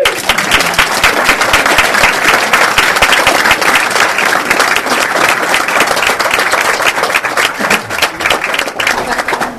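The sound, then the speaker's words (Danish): A crowd claps steadily to welcome lead candidate Torsten Gejl, a dense, loud wash of many hands with no pauses and no voices standing out. “Så hvis I vil have det bedste ud af jeres spidskandidat, kan I så godt klappe til nu, når Torsten Gejl.”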